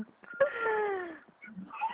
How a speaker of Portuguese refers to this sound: Alô? Ah, Tem um galo aí. eu tô ouvindo.